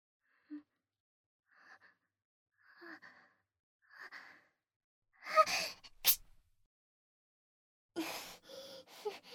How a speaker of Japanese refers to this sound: すみません、くしゃみ出ちゃいました。